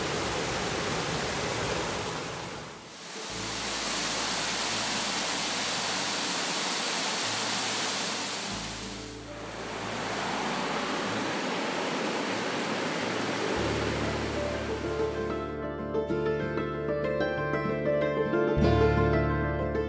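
Steady, loud roar of rushing water from three Virginia waterfalls (the Cascades and a waterfall in Mill Creek Nature Park, both in Giles County, and Falls Ridge Falls in Montgomery County) in three stretches separated by brief dips, with no talking; near the end, soft musical tones rise over the continuing rush.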